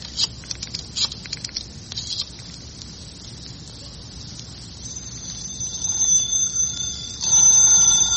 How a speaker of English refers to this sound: the phone's ringing. I know it. Why don't you answer it? It must be Mrs. Odette's again. Let it ring.